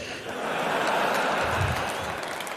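A crowd applauds steadily for a couple of seconds to vote for a contestant, a dense, even wash of many hands clapping at once, fairly loud and sustained without a clear break.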